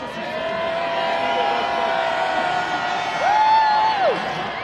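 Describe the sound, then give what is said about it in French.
A large enthusiastic crowd cheers loudly and continuously outdoors as Pope Benedict XVI tours the square in the popemobile, a dense roar of many voices with rising whoops and a few sustained shouts standing out near the end. “Benoît XVI arrive sur les coups de 10h30, souriant, effectuant en papa mobile le tour de la place sous les vivats d'une foule enthousiaste.”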